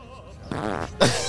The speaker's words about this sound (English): This is Central Park West. This is Central Park West. Farting.